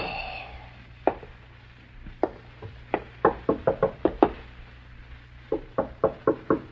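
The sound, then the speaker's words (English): Knocking on an apartment front door: a few scattered raps, then two insistent bursts of quick knocks separated by a short pause, firm over a faint low hum. “You stare at the front door of the apartment in startled silence. Your first impulse is to answer the door, isn't it, Ted?”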